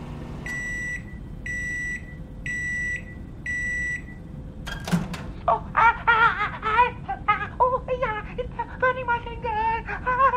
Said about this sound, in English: Get that microwave on, darling. Hello, sir. Do you want your panini warmed up? Okay, wait there. Just put it in the micro.